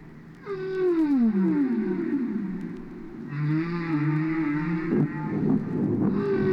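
Whale vocalization: long, eerie moaning calls that glide downward and waver in pitch, rising and falling in overlapping tones. Loud and continuous throughout, with no talking.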